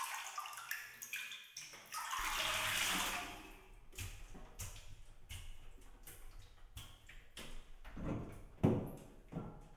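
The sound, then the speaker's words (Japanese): Water sloshes and splashes loudly as someone climbs out of a bathtub to sit on a chair for washing, followed by scattered drips, knocks and small clatters, with no talking. “お風呂から上がってこっちの椅子に座ってください。”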